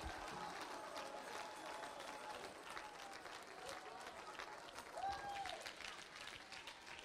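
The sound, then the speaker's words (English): A church audience at an evening service claps hands and shouts in praise continuously in a dense, steady roar of applause, with indistinct voices calling out and a brief rising shout cutting through near the end. “Clap your hands and shout unto him.”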